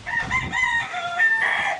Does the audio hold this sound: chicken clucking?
yes